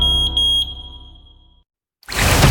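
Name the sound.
smoke detector alarm beeping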